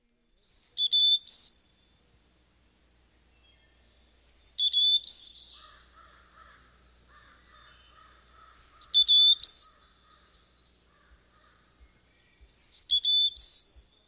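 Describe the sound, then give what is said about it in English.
A Carolina chickadee sings a variation of its high, clear whistled song four times, each phrase a quick run of sliding notes, spaced evenly with soft bird chatter between repeats. “A variation of this song is Phoebe, Phoebe.”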